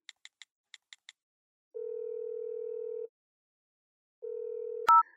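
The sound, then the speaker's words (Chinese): Six quick keypad beeps are dialed on a mobile phone to call a female classmate, followed by a long, steady ringing tone, a pause, then a second ring that is cut off by a sharp click as the call connects. “哎，把你手机给我，给你的女同学打个电话。”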